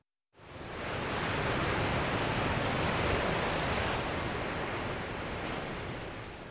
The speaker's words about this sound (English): Sir, the wind is strong and the waves are too high. Right, and I think it will rain soon.